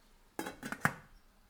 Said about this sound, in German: Ich decke die Pfanne mit dem Deckel ab.